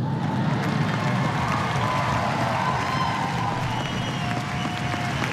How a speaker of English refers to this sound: If you can see the faces in the audience, there was about three quarters applauding wildly, men and women,